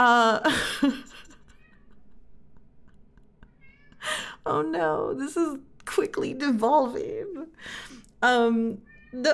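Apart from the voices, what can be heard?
cat meowing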